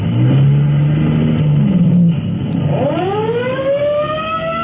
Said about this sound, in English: Let's go to Fire Department headquarters just in time to join Chief Cody as he rolls in his car to answer an alarm.